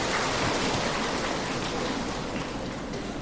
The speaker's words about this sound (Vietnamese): Chúng ta xin cho một tràng pháo tay thật lớn thật dài nữa đi ạ.